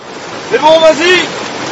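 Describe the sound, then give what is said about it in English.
Heavy rain falls in a steady, dense hiss during a French military patrol in the area around Birao, and a brief voice or call rises over the downpour midway before fading back into the constant rush. “On this day, as soon as rain starts falling heavily, the patrol mission is abandoned.”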